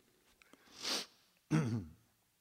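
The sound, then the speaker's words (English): A breathy sniffling sound: one drawn-in nasal rush of air, then a sharper, louder snuffling burst a moment later, with nothing else around it. “The sniffles.”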